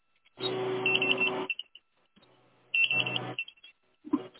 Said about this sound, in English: And what's the beeping sound?